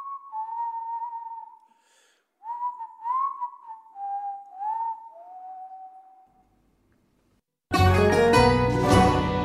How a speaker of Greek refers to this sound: Σφυρίζοντας μέχρι τους τίτλους των ειδήσεων